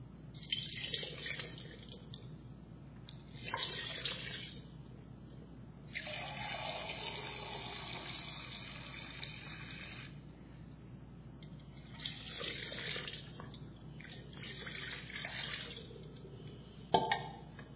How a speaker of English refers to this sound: So we do it as follows. You hold the hand this way so that everything is exposed. Your hand is totally exposed to the water. And you pour it twice.